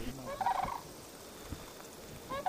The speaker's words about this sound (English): The sandhill cranes especially, it's fun to hear them.